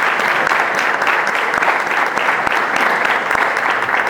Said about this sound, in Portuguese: Uma salva de palmas